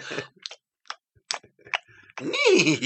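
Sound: voice imitating a horse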